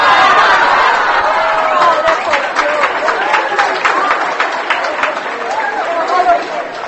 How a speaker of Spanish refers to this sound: Obsérvese que aplaudieron solo las mujeres.